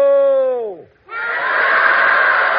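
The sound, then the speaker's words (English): A falling, wailing tone slides down and fades, then a large crowd at the opening of Let's Pretend bursts into loud, sustained cheering that holds steady to the end. “look at all those people out there. Not only look, Uncle Bill, but listen to them.”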